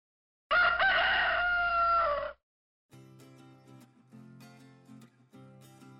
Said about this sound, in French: C'est le coq qui chante. Oui, le coq.